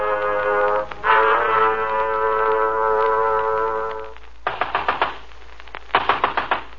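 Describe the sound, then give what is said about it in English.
A long, steady droning tone fades out, then two bursts of loud, rapid knocking on a door follow, each a quick cluster of four or five sharp raps with a short pause between. “Okay, I'm coming. Open up, open up. Hello, come on, open up. Next time, why not bring along an axe?”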